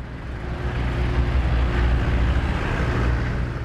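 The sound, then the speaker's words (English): A dense traffic jam on a completely blocked eight-lane highway, with cars bumper to bumper: a steady, continuous low rumble of many idling and creeping engines with a faint droning hum, fairly loud and unbroken throughout, with no voices. “A seemingly endless convoy of cars sits banked up, bumper to bumper. This 8-lane highway is completely blocked, and the drivers are losing patience.”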